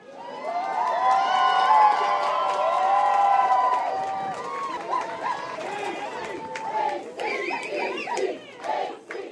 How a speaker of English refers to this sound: Ketchikan High School's academic decathlon team won the state championships in February and then brought home a first-place win from the national competition in April. They were welcomed home by a large, enthusiastic crowd despite a downpour.